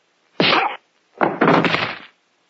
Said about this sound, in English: The unconscious butler's body made a satisfyingly loud thud as it hit the floor.